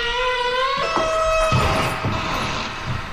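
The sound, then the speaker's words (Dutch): A stiff door, being unlocked with a key, creaks open with a drawn-out, high squeal, then a few dull clunks and rattles follow as the latch and door give way, with no voices. “Ja, dit valt niet mee, hè, die deur. Ja, daar komt ie. Oh ja, hij gaat open.”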